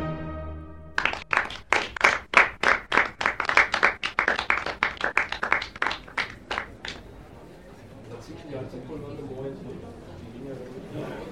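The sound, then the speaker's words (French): Thin, scattered applause from a Viennese concert audience after Beethoven conducted the orchestra in his Eroica: a few dozen sharp claps in a loose, uneven rhythm that die away after several seconds, leaving a low murmur of voices. “Aux applaudissements clairsemés, il refuse obstinément de répondre, même par un signe de tête.”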